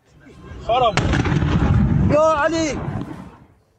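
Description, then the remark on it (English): A sudden, loud blast bursts in and rolls into a sustained heavy rumble of a large explosion at a base used by the Popular Mobilization Forces in Babil province, south of Baghdad, Iraq, while people shout in alarm before and during it, then the roar slowly fades. “At least one person has been killed and 20 others have been injured during a large explosion in Iraq.”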